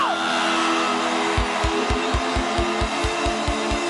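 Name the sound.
audience screaming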